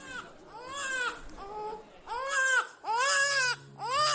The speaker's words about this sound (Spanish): Y de repente se cuela el llanto de un niño, pero vamos, directamente en la charla y en la comida.